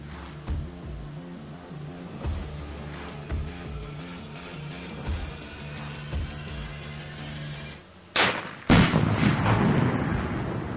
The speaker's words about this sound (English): Now, in case you're wondering what that explosion is, she stole this whole shtick from who? Come on, we know.